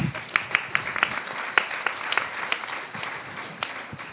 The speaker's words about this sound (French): Ah oui, on peut applaudir.